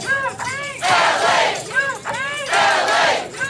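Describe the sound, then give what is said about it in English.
A large crowd of striking teachers chants in unison as they march in the rain in Los Angeles on day three of a teachers' strike, loud rhythmic shouted phrases repeating in steady bursts with a broad wash of voices between them. “In Los Angeles, the rain keeps falling and teachers keep marching.”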